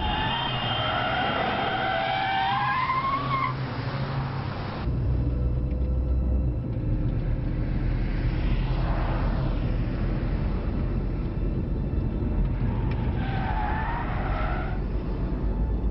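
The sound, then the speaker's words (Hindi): A car is driven at speed at night with a constant heavy road rumble and engine roar, a rising whine of revving and tyre noise cutting in near the start and again toward the end; no voices. “क्या बस करूँ, इस तरह की हरकतें गाड़ी चलाते वक्त और वो भी रात के वक्त।”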